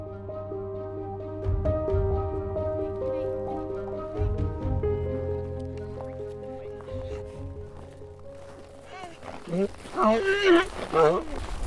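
Steady, droning musical tones give way near the end to loud, wavering animal calls, like donkeys braying close by, with a shuffle of movement around them.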